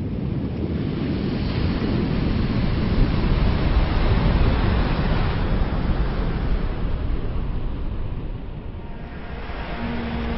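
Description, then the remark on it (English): A heavy, continuous, loud roar of large ocean waves from a storm swell that traveled 3,000 miles, crashing and churning on a shallow reef of a South Pacific island, with gusting wind buffeting the microphone throughout and no voices. “Some of the largest waves in the world break on South Pacific Islands.”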